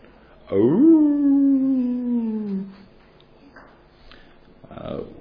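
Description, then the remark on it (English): A dog named Theo lets out one long, loud howl in the dark at night, a sustained tone that slowly slides downward for about two seconds, then fades into quieter, scattered soft sounds. “It's a howl.”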